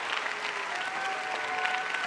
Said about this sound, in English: Not only do they clap, but you got some people that cheered